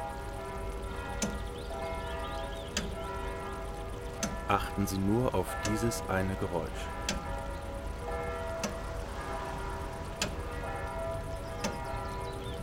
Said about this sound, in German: Und jetzt konzentrieren Sie sich auf den Klang der Kirchenglocken.